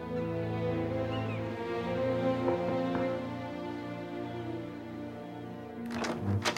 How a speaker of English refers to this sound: He opens the door and finds Varden in the hallway.